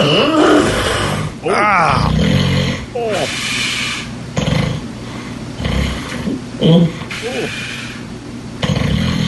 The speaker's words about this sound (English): I believe we're right around fart/sleep growl. Let's just go ahead and play it raw. Oh, yeah, don't skip that sleep apnea scream. That was choice.